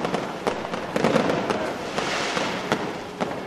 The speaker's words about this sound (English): The fireworks signal that it's time for the procession to move off through the streets.